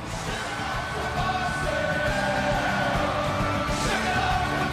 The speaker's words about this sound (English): And the crowd goes wild.